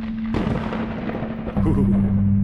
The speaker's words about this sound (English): And suddenly, throughout all of this, where it has been so silent other than the thunder in this strange dead world,